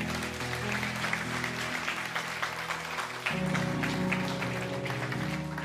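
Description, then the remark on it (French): A church audience claps continuously in a dense, steady patter for several seconds to thank its representatives, while sustained low keyboard-like tones hold underneath and shift to a new chord partway through. “Est-ce qu'on peut les remercier, vos représentants, les applaudir?”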